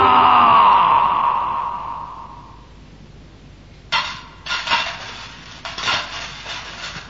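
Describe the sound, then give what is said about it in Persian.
Gold coins clink and jingle together in several bright, metallic bursts over a few seconds, following a soft, fading tonal swell at the start. No one speaks. “صدای طلاها که به هم میخورد خوشش میومد.”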